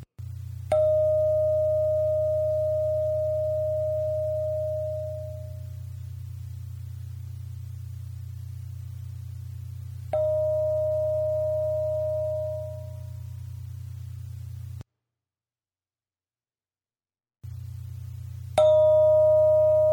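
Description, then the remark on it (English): A bell rings three times, each strike decaying with a clear sustained tone: the first rings long, the second shorter, the third cut off. A steady low hum runs underneath, with a brief silent gap. “I'm going to ring the bell three times, and each time raise your hand when you hear the sound stop.”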